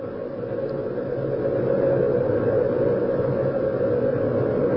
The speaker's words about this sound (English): Once again, we have a sequence of main engine start.